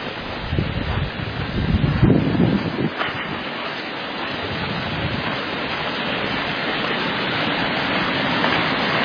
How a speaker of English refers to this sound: creek is roaring. It has been running hard.